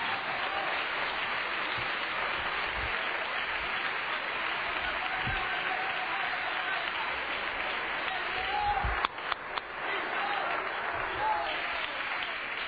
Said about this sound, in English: Clap your hands to the Lord and let Him know we're going to worship Him in the Word tonight.